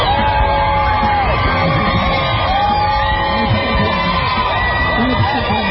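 A large crowd cheers and yells outdoors as President Trump briefly leaves the hospital, waving from an SUV, a dense, steady roar of many voices with scattered whoops and shouts rising above it, loud and continuous throughout.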